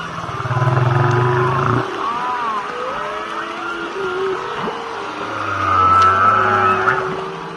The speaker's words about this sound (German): Toll, oder? So hört sich das an, wenn Wale untereinander bequatschen, was es so Neues gibt. Könnte man stundenlang zuhören, oder?